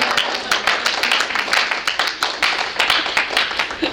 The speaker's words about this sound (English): I feel like a round of applause needed for Mr. Cleveland.